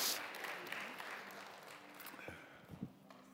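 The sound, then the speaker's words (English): A crowd applauds a group of men as they come forward, in a steady, dense wash of clapping that gradually thins out, with a faint voice briefly rising over it near the end. “Y'all want to give this handsome, austere, godly, wonderful group of men a nice round of applause as they come?”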